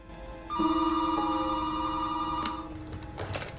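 office telephone ringing

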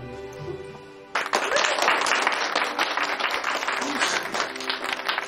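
people applauding

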